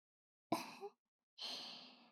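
A teacher yawns: a sharp voiced intake with a brief rising moan, then after a short pause a long, airy breath out that fades slowly. It is fairly soft, with no talking.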